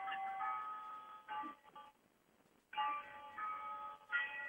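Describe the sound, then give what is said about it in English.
A clock chimes a melodic tune of ringing, bell-like notes in two phrases with a brief quiet pause between them. The tone is somewhat thin and muffled, and no one speaks. “We're giving Jennifer's clock center stage.”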